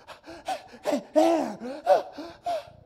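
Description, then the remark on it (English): A person gasps for air over and over, about half a dozen ragged, voiced breaths in quick succession, fairly loud, with no words spoken. “As he's gasping,”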